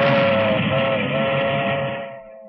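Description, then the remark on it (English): A milk train rumbles past, its whistle sounding one long, steady blast over the heavy clatter before the noise fades away. “You could afford to move away from all that racket. Oh, it doesn't bother me. Just the milk train.”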